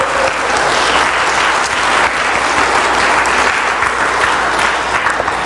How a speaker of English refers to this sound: So I think we should give her an applause there.